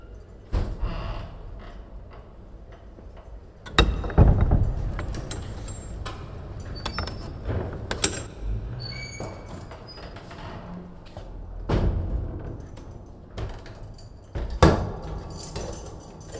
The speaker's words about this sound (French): Ça doit être dur d'ouvrir toutes ces portes. Encore une pièce ?